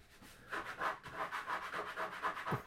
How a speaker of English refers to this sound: Scratching.